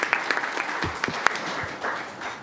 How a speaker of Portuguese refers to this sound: O Instituto Rio Branco tem adotado um sistema que todos nós sabemos e que merece também as nossas palmas.